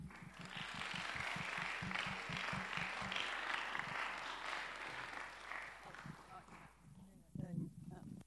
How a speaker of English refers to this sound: So thank you so much, and applaud for yourselves.